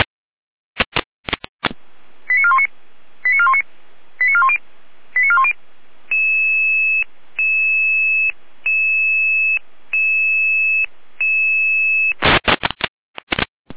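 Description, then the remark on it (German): A German emergency radio alerting tone sequence dispatching crews to a traffic accident on the road between Allendorf and Schwarzburg near Fasanerie: four quick warbling electronic beeps, then five evenly spaced sustained dual-pitch tones, framed by short bursts of radio static at the start and end. No voices. “Hier eine Alarmierung.”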